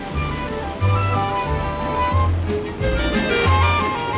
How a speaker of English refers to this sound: Now that waterfall's called Big Thunder, but you won't get wet unless the wind changes.